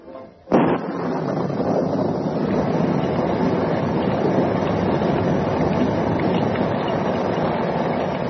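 A steady downpour of rain falls on the Black Beauty outside a roadhouse in the darkness, hissing continuously and evenly after a brief sharp sound at the start, with no voices and no change in intensity throughout.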